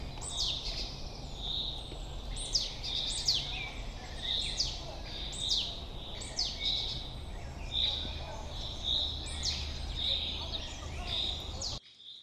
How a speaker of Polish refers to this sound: No ale na pewno są jeszcze ptaki w dziupli. Cały czas alarmują. Alarmowy sikor ubogi.